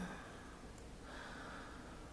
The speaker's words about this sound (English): One. Two. Three. Breathing deeply.